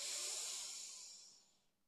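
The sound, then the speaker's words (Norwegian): A deep inhale through the nose during a guided relaxation breathing exercise, a soft airy hiss lasting under two seconds that starts fuller and gradually tapers away. Quiet, with no talking. “Pust godt inn med nesa.”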